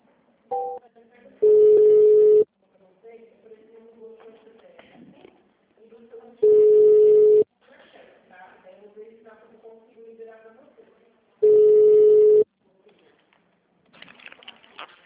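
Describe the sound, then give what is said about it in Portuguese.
Three loud, steady telephone tones about a second each, evenly spaced every five seconds, as a phone call is transferred to the payroll department, with quiet murmuring and faint background sounds between them. “Está com a folha de pagamento, só um momento que eu vou transferir.”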